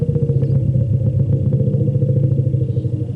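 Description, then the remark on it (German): A deep, throbbing elephant rumble calling to another elephant by name, loud and continuous for about three seconds, with a rapid pulsing, almost engine-like texture and no voices. “Hey Julia, komm doch mal rüber. könnte sich auf Elefantisch so anhören.”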